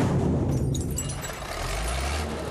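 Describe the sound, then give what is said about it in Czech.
A heavy garbage truck arriving at a dump rumbles steadily, its engine a continuous low droning growl with faint clanks and squeaks above, and no voices. “Zavážka je, když na smetiště přijede nákladní auto plné pokladů krásných, báječných, velkolepých pokladů.”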